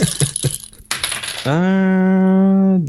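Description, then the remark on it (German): A die built as a die within a die clatters and tumbles across a hard surface in a quick burst of rattling hits, then gives way to a steady, ringing hum that holds before cutting off. No one speaks. “Nein, das ist dieser Würfel. Das ist so eine komische Konstruktion. Das ist ja ein Würfel im Würfel.”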